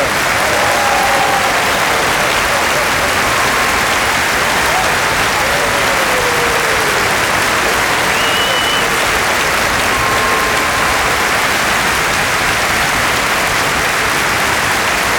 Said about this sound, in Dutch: is een enorm applaus.